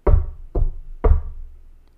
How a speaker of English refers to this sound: I was 7 the first time I heard the knocking. 3 short knocks on the door.